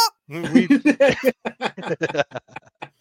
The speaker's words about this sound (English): Oh, that's literally awesome, dude. Just chickens. That is so awesome. That's Earl.